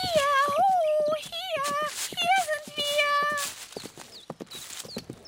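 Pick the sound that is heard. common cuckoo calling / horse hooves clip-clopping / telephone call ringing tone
horse hooves clip-clopping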